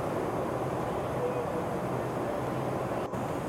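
Steady, dense low roar fills the whole stretch, an unbroken engine-and-air drone inside an airplane cabin in flight, with a brief dropout near the end.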